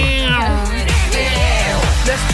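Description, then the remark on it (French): Several drawn-out, meow-like cries rise and fall in pitch, loud, over a steady low droning background that runs throughout. “On dirait un chat.”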